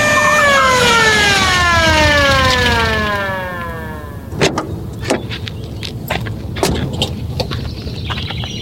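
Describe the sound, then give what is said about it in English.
A police car siren wails, then winds down, its pitch sliding lower over a few seconds before cutting out, followed by scattered sharp clicks and knocks. A man is riding in the back of the police car. No one speaks. “Yep, there he is now, taking an unexpected ride in the back of a police car.”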